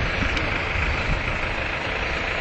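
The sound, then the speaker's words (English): A steady, low engine rumble drones without a break, a vehicle idling in street traffic near Union Station, with a broad hiss of road noise layered over it. “And I'm going to go ahead and go because he's just going to idle there.”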